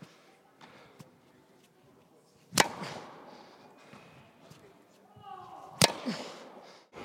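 Two sharp, loud tennis racket strikes on a ball, roughly three seconds apart, each a crisp pop with a brief ringing tail, over a low murmur of background noise.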